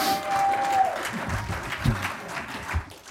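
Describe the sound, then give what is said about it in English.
An audience claps steadily, a dense wash of applause sustained throughout, with a faint whistle early on and a few louder claps standing out near the middle. “Big round of applause”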